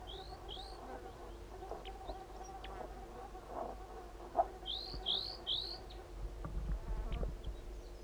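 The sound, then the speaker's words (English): Calls of two crossbills: two sharp, high chip notes early on, then a quick run of three more, over a steady low buzzing like insects in the background. “There are two crossbills here.”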